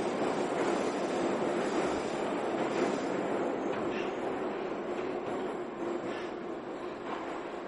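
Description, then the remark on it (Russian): A steady, loud rumble of a metro train speeding through a tunnel, a dense continuous roar with faint rhythmic rattling, heard from inside the carriage and easing slightly toward the end. “Самба стояла у двери спиной ко всем и упорно смотрела сквозь стекло, за которым неслись черные полосы кабелей, проложенных на стене тоннеля.”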